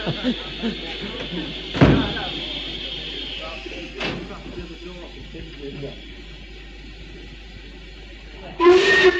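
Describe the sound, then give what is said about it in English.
Two heavy steam train doors slam a couple of seconds apart over a steady steam hiss and murmuring voices of a crowd boarding for a last historic run, then the train's loud whistle blasts right at the end. “Train is just steaming up. The doors are still slamming.”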